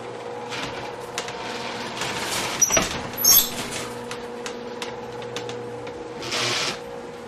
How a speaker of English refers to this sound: try opening the door that is located to the right. You can hear the sound of the door.